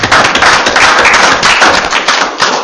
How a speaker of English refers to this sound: offer him a round of applause for his service here on the council.